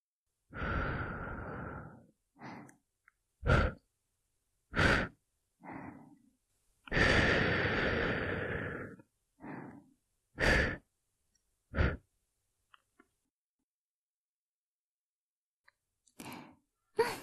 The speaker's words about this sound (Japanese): 最後のおまけに息吹きかけちゃうぞ。お姉さん巫女の吐息成分で君の汚れを払っちゃう。覚悟するんだぞ。